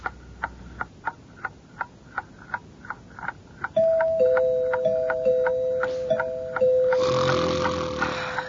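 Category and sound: human body sound, man snoring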